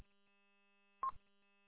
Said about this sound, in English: Yep, still sitting here listening, trying to hang up on a phone call. The phone's plugged in, buzzing on my bench.